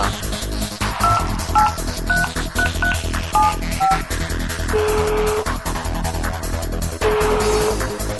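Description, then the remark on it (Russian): A rapid run of about eight touch-tone dialing beeps, calling a teacher on the phone, plays over steady background music, followed by two longer, lower tones like a phone line ringing. “Ну а теперь все вместе давайте позовем препода к телефону.”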